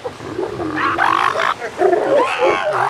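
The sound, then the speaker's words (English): Loud, overlapping calls of hundreds of elephant seals basking on a beach on California's Central Coast, in rough bursts: guttural bellowing roars mixed with higher wavering squeals of small black pups calling for their mothers. “Here on the Central Coast, halfway between Los Angeles and San Francisco, hundreds of elephant seals are basking on the beach. The small black pups squeal for their mothers, and the long snouted males hump along the beach like giant slugs.”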